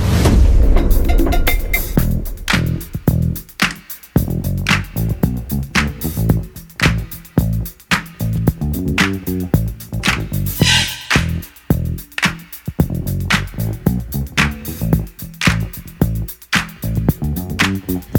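An old-school hip hop track plays loudly, driven by a steady, punchy drum beat and a bouncy, repeating bassline, with bright percussive hits and no clear vocals throughout.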